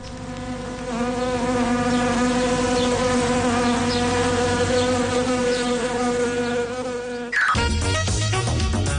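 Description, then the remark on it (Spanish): A loud, dense swarm of wasps buzzes steadily for about seven seconds, its droning hum unbroken, before cutting abruptly into a different, busier sound. It introduces the 'El Avispero' segment on COPE Cantabria radio. “Ya están conmigo las avispas de este martes.”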